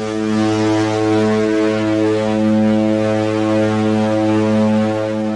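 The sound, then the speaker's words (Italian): A ship's horn (siren) blasts in one long, steady, deep tone with rich harmonics, loud and unbroken for over five seconds, as the ship approaches port, with no talking. “Eccolo il suono della nostra sirena.”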